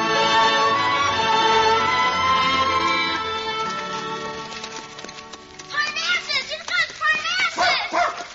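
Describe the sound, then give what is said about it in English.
A dog named Bark barks at a hound in a quick run of sharp, repeated yaps near the end, following a stretch of sustained tonal sound, with voices. “Stop barking at that hound, Bark.”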